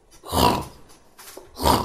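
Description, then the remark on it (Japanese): Two loud, rasping snores from someone sleeping, each a harsh rumbling breath lasting about half a second, separated by a brief quiet pause. “なんだあのいびきは？寝てんのか？起きてんのか？”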